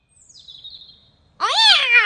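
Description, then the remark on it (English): A faint, thin high tone fades out, then a cat named Clarence lets out one loud meow that rises and falls in pitch, with no voices around it. “Oh, naughty cat.”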